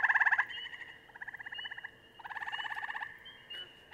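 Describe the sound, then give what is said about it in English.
A tree frog calls in three rapid, pulsing trills, the first short and loud, then two longer bursts, against a quiet night background with no talking. “Let's listen to a tree frog.”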